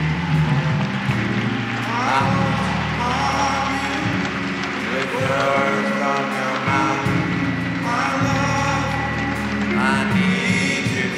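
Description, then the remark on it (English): An audience on its feet applauds steadily as men return to their seats, a dense wash of clapping that holds at an even, loud level throughout, with voices sounding through the noise. “Come on, keep your hands clapping.”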